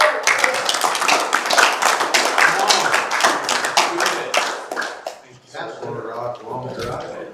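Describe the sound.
A crowd applauds with dense, steady clapping for about five seconds, then the claps thin out and fade as voices start talking.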